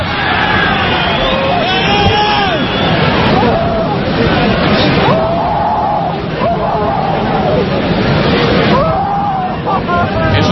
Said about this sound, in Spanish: Los gritos de Asenjo tras un salto a bloquear un balón, tropiezo en el aire sin querer con Raúl García, mala caída sobre la pierna derecha y desgraciadamente no hay dos sin tres.